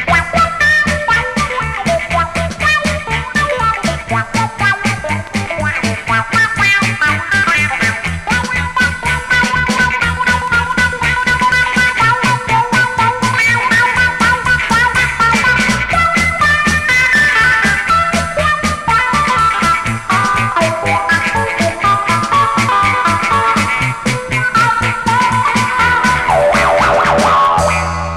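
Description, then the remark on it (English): An electric guitar played through a wah-wah pedal, its bright tone sweeping up and down in a vocal, growling way. The playing is loud and continuous for about half a minute, with no talking. “Now let's listen to the wah-wah pedal in action.”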